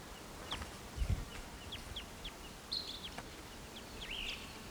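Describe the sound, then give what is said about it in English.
Soft, burry calls of a western wood pewee slur downward at a high pitch, with two longer buzzy notes standing out among scattered quick chips from other birds over a low rumble. No one speaks. “Oh, I'm sorry, it's a western wood peewee.”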